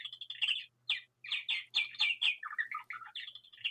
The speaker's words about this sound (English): We have a wonderful voice in the background there. It's a little bird saying it's, well, the clock is running fast.